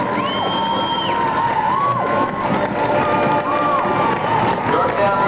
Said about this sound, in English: Listen to the applause all over the stands.